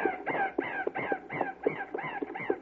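raven cawing

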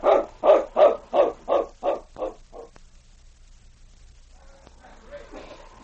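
large dog barking

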